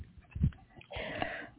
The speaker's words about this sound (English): But I'm breathing now.